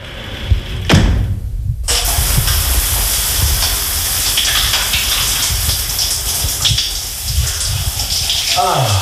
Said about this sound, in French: On commence par le chaud, et une fois propre, on tourne le bouton côté bleu, et on déguste. Allez, pour me convaincre, j'ai testé pour vous la douche écossaise. Voilà, ça vaut ce que ça vaut, mais ça donne ça.